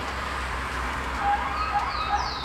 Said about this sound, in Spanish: Sonó una sirena de algún lugar donde algún trabajador debe estar ingresando. Nada. Ahí acaba de pasar un vehículo. Así de silenciosa está el plan de Valparaíso esta mañana.